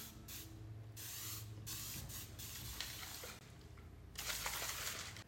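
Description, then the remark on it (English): Hissing bursts from a water spray bottle misting a woman's hair as her husband prepares to style it into a military bun, several sprays in quick succession with short pauses between them and a longer burst at the end, with no talking. “You need way more water than that.”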